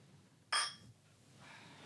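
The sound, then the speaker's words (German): A single bright clink of glasses of Helles beer knocking together in a toast, ringing briefly before fading against a quiet background. “Stößchen. Prost.”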